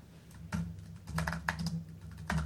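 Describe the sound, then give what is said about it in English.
Rapid clicking of computer keys in uneven bursts as someone types a web address while talking, moderately loud, with short pauses between clusters of keystrokes over a faint steady hum. “I did have a typo because I was typing this while we were talking.”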